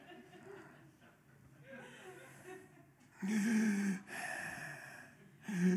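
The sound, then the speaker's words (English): Exaggerated, loud breathing: quieter huffing at first, then a few heavy, drawn-out breaths like forced sighs or gasps, each one noisy and deliberate. “Well, apparently some people have issues with breathing.”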